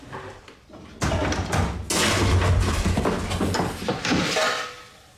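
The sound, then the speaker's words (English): Loud banging on pots: a rapid, continuous clatter of heavy knocks and thuds that starts abruptly, keeps up for several seconds, then fades away near the end. “You've been banging on your pots again, haven't you?”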